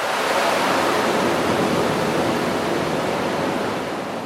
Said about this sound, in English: And the generators roar. Each produces nearly 400,000 horsepower.